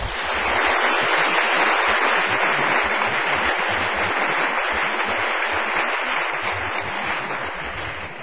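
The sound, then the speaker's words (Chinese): Sustained audience applause after performances of three sacred songs, including the Hallelujah Chorus, a dense crackle of many hands clapping steadily at a fairly loud, even level for about eight seconds, tapering slightly at the end with no voices over it. “大家再鼓掌一次。”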